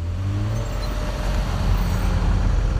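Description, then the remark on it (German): Steady road traffic at the gate of the MAN truck and bus factory in Munich-Moosach, Germany, at shift change as early-shift workers drive home. Cars and heavier vehicles pass continuously with a low engine rumble, a dense mix of motor noise with no voices. “Schichtwechsel beim LKW- und Bushersteller MAN in München-Mosach. Die Mitarbeiter der Frühschicht wollen nach Hause fahren, die der Spätschicht streben vom Parkplatz zum Werkstor.”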